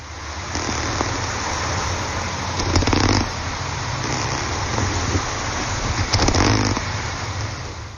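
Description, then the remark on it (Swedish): Underwater recording, made with an underwater microphone, of a snultra (wrasse) making two short bursts of raspy, clicking grunts, a few seconds apart, over a steady background hiss and a low rumbling hum. “Vi kan väl lyssna igen nu när vi vet vad det var. En snultra.”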